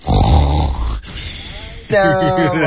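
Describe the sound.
A person imitates a dog snoring: a loud, rough, rumbling snore followed by a brief pause, then a wavering, throaty voiced grunt.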